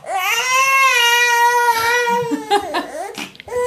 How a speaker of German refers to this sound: wollte ich nur mal kurz das Schreien unseres Sohnes zeigen.